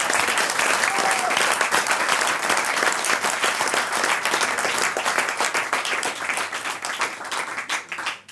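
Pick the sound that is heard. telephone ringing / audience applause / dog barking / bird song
audience applause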